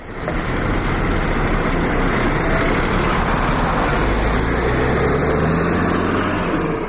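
A large bus engine idles steadily, a constant low rumble with a broad hiss of traffic noise around it, holding at the same loudness throughout with no voices; a bus that brought refugees from Serbia to the Croatian border of the European Union near Tovarnik.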